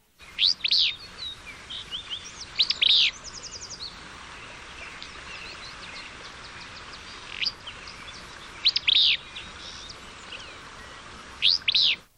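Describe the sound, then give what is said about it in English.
A willow flycatcher, recorded in the Verde Valley, Arizona, sings short, sharp, buzzy song phrases, repeated about five times with irregular pauses, clear over a quiet outdoor background with no talking. “There is considerable variety in the song of the willow flycatcher.”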